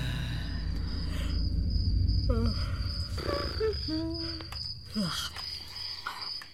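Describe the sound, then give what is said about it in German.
Crickets chirp in a steady, shrill drone that runs unbroken through the whole recording, over a low rumble and a few brief chirpy sounds in the middle. “Sag mal, kannst du das Zirpen nicht abstellen?”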